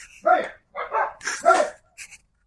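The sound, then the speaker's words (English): Neighborhood dogs barking in a quick run of four loud barks, the last one shorter and softer, with brief pauses between them. “All the dogs in the neighborhood have come out here.”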